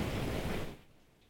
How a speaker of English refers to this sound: I don't know if you can hear that rain coming down, but boy, it's a soaker. Hang on. Hear that?